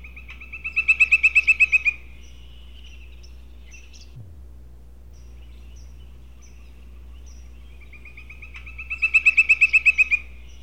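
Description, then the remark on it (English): A woodpecker's call rings out twice, each a quick run of about eight sharp, high-pitched notes, separated by a long pause over a steady low background hum. “Woodpecker's song.”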